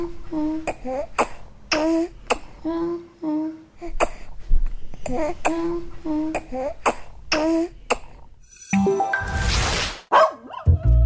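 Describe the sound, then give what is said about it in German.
A dog barks over and over in a quick, steady run of loud yaps lasting several seconds, followed by a short burst of harsh noise near the end. “Ja, ist schon super, wenn man so einen Hund hat, weil so ein Hund ist ja auch wie so ein Kind, ne?”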